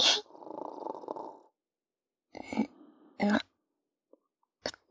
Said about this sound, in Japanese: 隣の個室、いびきうるさい。お互い寝カフェで寝てるんだからもうちょっと気を配ってほしいなぁ、もう。